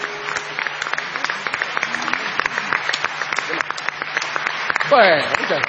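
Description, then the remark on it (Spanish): A crowd applauds steadily, a dense patter of many hands clapping for several seconds, with a voice breaking in near the end over the fading claps. “Cuando uno se equivoca lo aplauden más, siempre.”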